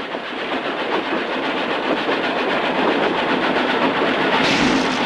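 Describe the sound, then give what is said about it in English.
A moving train rumbles steadily along the rails in ice and snow, a dense roar layered with a fast, regular clickety-clack, loud throughout, heard through an open sliding door with bitter wind blowing in. “Kostoyev and the other man quickly shovel the straw out of the moving train”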